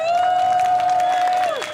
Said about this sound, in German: Mit einer eigenen Seifenkiste rollte er den Hang hinunter, zur großen Freude der Zuschauer. Eins und Start! Einen großen Applaus für unseren Fahrer!